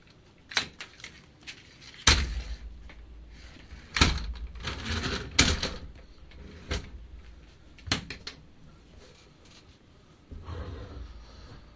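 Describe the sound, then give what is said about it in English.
Someone works a cord loose from a chair wheel that has come off, producing irregular thumps, knocks and rustling scrapes over about twelve seconds, with no talking. “Daddy can't do the show with the cord caught in the wheel.”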